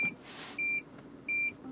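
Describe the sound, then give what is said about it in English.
A car's proximity warning beeps in short, evenly spaced electronic tones, about three pulses, set off by a bus very close to the car while driving, over a low hum of road noise. “Ooh, this bus. Very close to me. Made the car beep.”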